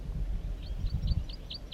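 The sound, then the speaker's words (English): A wild bird calls to the side of bird 4-3 in a quick, even series of about six short, high-pitched chirps over a low, rumbling background of wind-like noise. “Wild bird in 4-3 calls to the side.”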